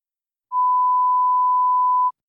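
A single steady telephone dialing tone sounds alone, a clean, fairly loud electronic beep held for about a second and a half before cutting off, with silence around it, as a call is dialed to Chez Marcel about a reservation for this evening.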